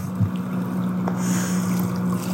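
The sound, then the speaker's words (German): A motorboat engine at sea drones steadily as it is given throttle, a loud low hum over a wash of water and spray noise, holding at a constant pitch for the whole stretch with no voices. “Warum muss man das zerstören durch Motorboote, die laut sind, die Umwelt verpesten?”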